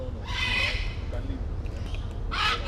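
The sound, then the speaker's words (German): Two harsh, raspy bird squawks, one early and one near the end, stand out loudly over a steady low rumble of background noise, from aviaries holding parrots and toucans at a terminal on the Colombian Caribbean coast. “Dazwischen Volieren mit Papageien, Tukanen und Affen. Das Terminal ist auch ein kleiner Tierpark.”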